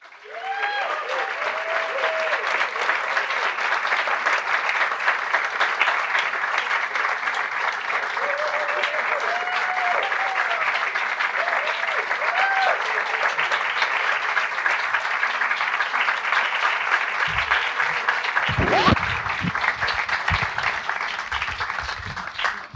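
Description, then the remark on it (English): An audience applauds steadily for over twenty seconds at a live book event at the Strand Bookstore in New York City, a dense, sustained wash of clapping from a good-sized crowd, with faint voices murmuring and a few low thumps near the end. “You know how to draw out a nice crowd.”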